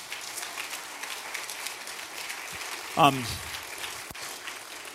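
Steady applause from a church audience fills the whole stretch, a dense patter of many hands at moderate volume, with one short vocal whoop bursting out midway before the clapping carries on.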